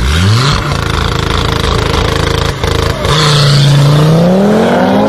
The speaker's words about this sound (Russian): Ну, это старая ТТРС-ка, это не та, что сейчас. Но, тем не менее, ну, прикольно же. Рычит.